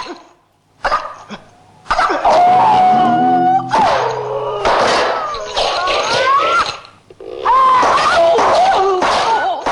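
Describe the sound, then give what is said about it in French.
A string of Bruce Lee's loud, high-pitched martial-arts fighting cries from his films: drawn-out, wavering yowls with sliding pitch, almost cat-like, broken by short gaps and a few sharp yelps. “Tout le monde aura reconnu l'empreinte vocale qu'on a pu retrouver dans ces films. Oui, ces petits cris de chat, c'était terrible.”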